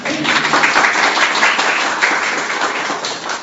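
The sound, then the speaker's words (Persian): Steady audience applause fills the whole stretch, a dense, even wash of many hands clapping at once, fairly loud, with no break in the sound. “جای تشویق نداره ما.”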